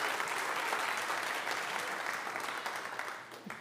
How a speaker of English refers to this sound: Let's give him a big round of applause, too.